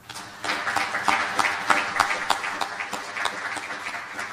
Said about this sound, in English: I think all of us here in this room, I think, deserve a round of applause ourselves for actually helping to make these opportunities happen and help lay this foundation and help bring things forward. So let's all give ourselves a round of applause.